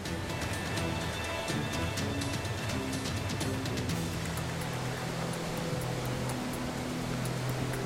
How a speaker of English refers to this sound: The river is fast flowing, the current very strong. It's a hard swim to reach a far bank.